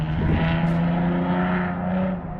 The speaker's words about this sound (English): And there's loud cars driving around here.